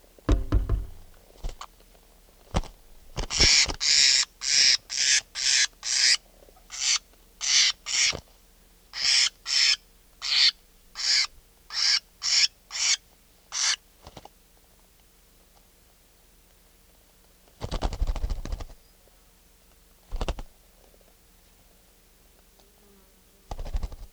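A wild bird calls in a long rhythmic series of about twenty loud, harsh, high-pitched notes, then falls quiet before two more short bursts. No one speaks.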